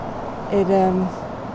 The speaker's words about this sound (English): Sunday's Well Road is really busy. It's chock-a-block with traffic, kind of from early in the morning.